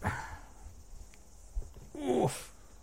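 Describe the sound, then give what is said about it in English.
A dog makes a few short noises: a brief whine-like sound at the start, then a louder, rising grumble that ends in a sharp, breathy snort, with no talking. “Do you know this fucking dog, mate?”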